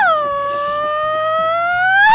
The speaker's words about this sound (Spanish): nos manden su gritito de mariachi